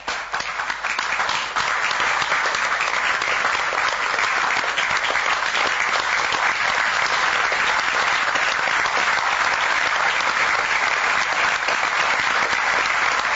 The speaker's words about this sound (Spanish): El aplauso que descargaba la tensión.